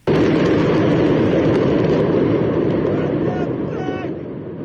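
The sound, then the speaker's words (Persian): A large explosion at the port of Beirut, Lebanon, on a Tuesday at 6 in the evening, erupts abruptly and loudly, then continues as a heavy, rumbling roar that slowly fades over several seconds. A faint voice or cry briefly rises near the end. “ساعت 6 شام دیروز دو انفجار بزرگ در بیروت رخ داد که تمام بندر و مرکز شهر و اطراف آن را تکان داد و صدای مهیبی به گوش رسید.”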